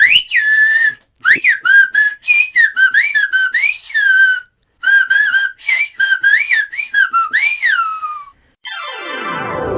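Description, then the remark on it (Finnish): Loud whistled speech in the Gomeran whistled language, whistling 'thank you': a series of sliding, pitch-bending whistle bursts in quick phrases, ending with a brief descending swoosh. “olisi vielä viheltänyt kiitos lopuksi.”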